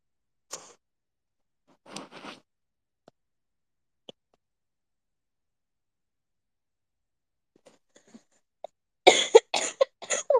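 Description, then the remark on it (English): A painful coughing fit: a couple of isolated harsh coughs, a quiet stretch with faint clicks, then a rapid, strained burst of coughs at the end. No one speaks. “Oh my God. That hurt. That one hurt a little. I'm gonna get a cough drop.”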